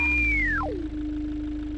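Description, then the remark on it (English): An electronic pedal tone from a car system: a clean synthetic pitch glides smoothly downward, then settles into a steady, sustained low tone over a faint background rumble, with no voices. “You have your pedal tones.”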